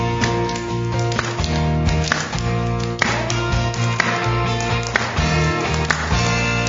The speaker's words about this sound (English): Can you clap with me?